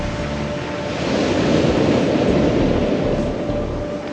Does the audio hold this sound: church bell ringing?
no